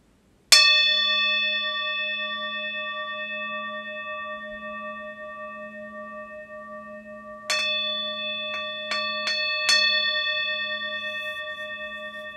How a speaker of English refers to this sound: Sounds of the bells, my voice, ambient sounds in your space, near and far, coming and going.